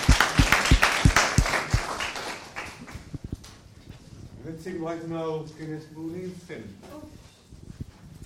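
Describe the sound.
An audience applauds with dense, crackling claps that fade out after a few seconds, then a single voice starts speaking over a quiet background.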